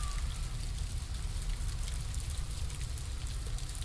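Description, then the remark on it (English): A dense, steady patter of ice pellets striking surfaces, countless tiny ticks blending into a continuous hiss, with a low rumbling background and no one speaking. “Look at all this ice pellet.”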